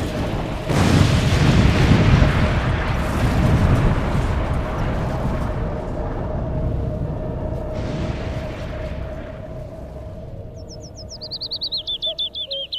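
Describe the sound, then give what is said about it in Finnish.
Whining of a falling meteorite: a rumbling, roaring wash of noise with a steady hum, then a rapid series of high-pitched, descending whistling whines near the end. “Kuuletko? Ton vinkunan. Niin. Mikä se on? Se on meteoriitti.”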